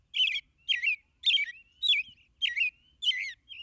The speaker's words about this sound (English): These rich, caroled phrases are among the best-loved and most widely heard in North America. This superb song belongs to perhaps our most familiar bird, the American robin. As singers go, the robin is exceptional.